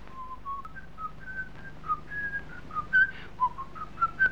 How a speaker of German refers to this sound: Der blinde Straßenhändler erschrickt. Das habe ich doch schon mal gehört. Er ruft nach einem jungen Mann. Hast du den Mann gesehen, der gepfiffen hat? Ja, ich sehe ihn noch.